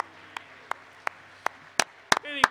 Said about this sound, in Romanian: Haideți să aplaudăm, să-L aplaudăm pe Domnul. Slavă Domnului!